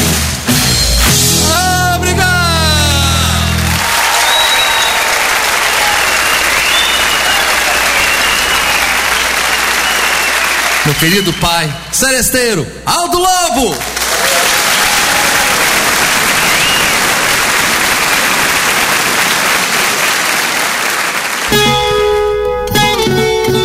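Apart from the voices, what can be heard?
audience applause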